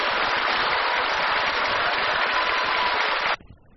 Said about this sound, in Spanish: Vamos a dar un aplauso fuerte a Jesucristo. Fuerte, fuerte, fuerte, fuerte, fuerte, que para Jesús.